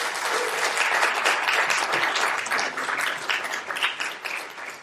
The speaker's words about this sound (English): And just give them a round of applause as they join us up here.